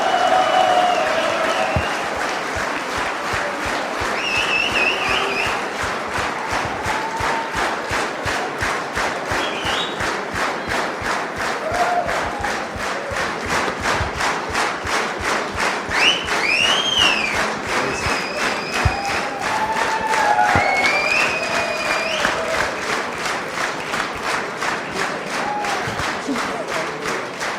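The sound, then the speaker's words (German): A big stadium crowd in Dresden applauds and cheers steadily for Ralf Minge, sports director of Dynamo Dresden, dense clapping filling the whole stretch at a constant loud level, with scattered whistles and shouts rising above it. “Ralf, das ist dein Beifall.”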